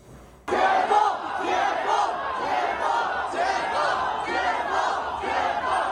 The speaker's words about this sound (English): Shouts for freedom. For democracy. For the president of China, Xi Jinping, to step down. A deadly apartment fire that killed at least 10 people triggered the protests.